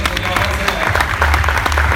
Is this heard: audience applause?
yes